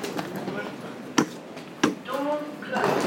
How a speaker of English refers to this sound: Door closing. Whoa. Doors closing.